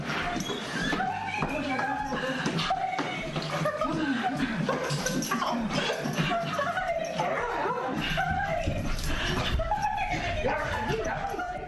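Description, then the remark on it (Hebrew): A female dog whimpers and yelps excitedly in a steady stream of high squeals and short barks as she is reunited with her owner, American astronaut Christina Koch, just back from the International Space Station, mixed with people laughing and speaking over it throughout. “בסוף השבוע הזה היא העלתה לחשבון האינסטגרם שלה צילום וידאו של המפגש המרגש שלה עם הכלבה שלה. כך זה נשמע.”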